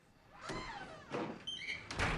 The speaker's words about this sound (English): Nolan puts his key into the lock and opens his front door. He slips into the dark hall.